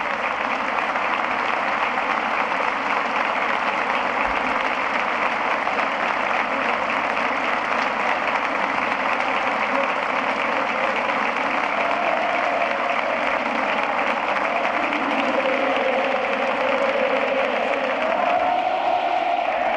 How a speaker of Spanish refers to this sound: Bueno, ahora llega el 2 de abril y el aplauso es rotundo en este minuto de silencio aquí en el bosque.